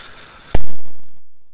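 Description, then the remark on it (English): One sudden, loud cough after inhaling coffee bursts out over faint background hiss, then quickly fades, with no talking around it. “Sorry, I just managed to inhale my coffee.”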